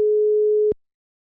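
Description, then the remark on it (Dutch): A telephone ringing tone on an outgoing call to the Schipluiden historical society on a Friday afternoon: one steady, mid-pitched electronic beep lasting under a second, cutting off cleanly into silence. No one speaks. “En op de gok bel ik op een vrijdagmiddag met de historische vereniging Schipluiden.”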